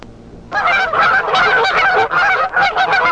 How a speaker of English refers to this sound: The geese are heading south.